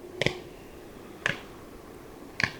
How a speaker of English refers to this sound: During the spring mating season, males display to females in zigzag flight while clapping their wings together.